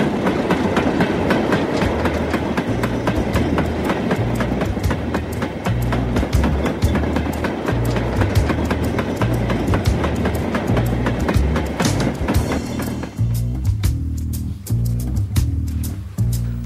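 A train rolls steadily along the rails with a rhythmic clickety-clack over a deep, continuous rumble. The sound is loud, and it eases slightly toward the end.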